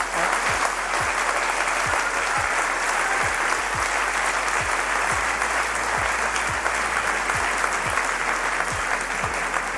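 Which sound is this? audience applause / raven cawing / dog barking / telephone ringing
audience applause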